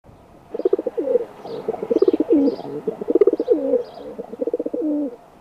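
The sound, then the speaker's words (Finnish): A feral pigeon coos repeatedly, soft throaty rolling phrases following one another in a steady rhythm, with a few faint higher chirps in the background. “Kesykyyhkyn eli pulun kantamuoto on villi kalliokyyhky.”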